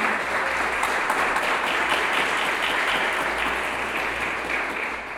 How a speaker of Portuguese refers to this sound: Palavra do Senhor. Pode aplaudir a palavra do Senhor.